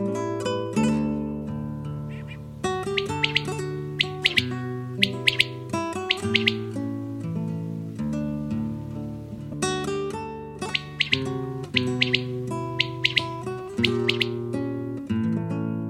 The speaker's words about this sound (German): Das war die Wachtel.